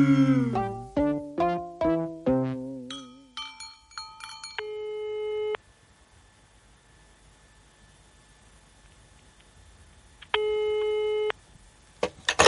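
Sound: telephone call tones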